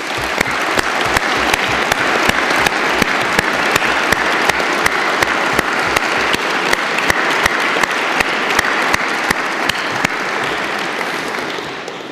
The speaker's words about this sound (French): Ces deux lauréats voudront bien se lever pour que nous les applaudissions.